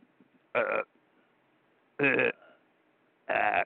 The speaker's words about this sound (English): What do you do with a guy who keeps burping all the time?